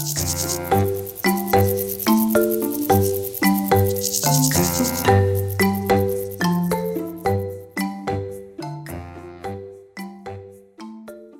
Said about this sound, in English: The sound of grasshoppers and crickets, it to me is the sound of a healthy garden and a nice environment to be in.